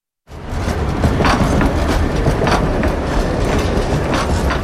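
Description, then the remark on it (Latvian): A decades-old tram rumbles steadily along the rails of tram line 5 between Kalnciema iela and Iļģuciems, with loud low-frequency rolling noise, periodic wheel clatter and faint metallic squeals, and no one talking. “Piektā tramvaja līnijā no Kalnciema ielas līdz galapunktam Ilģu ciems ir modernizētas pieturas, izbūvēta jauna infrastruktūra, pārbūvēti kontaktīkli un sliedes, taču pa tām joprojām brauc desmitiem gadus veci tramvaji.”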